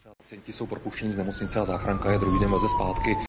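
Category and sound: vehicle, ambulance siren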